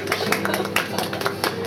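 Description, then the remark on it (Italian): A short burst of audience applause, many hands clapping in a dense, steady patter at moderate loudness, with no voices over it. “Un applauso.”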